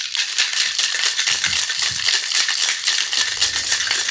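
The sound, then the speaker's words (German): A cocktail shaker holding an espresso martini of vodka, coffee liqueur and espresso is shaken hard and steadily, producing a loud, continuous bright rattle of ice churning inside with quick rhythmic pulses, and no talking over it. “Interessant, dann schüttel mal los. Ja, mal ordentlich schütteln.”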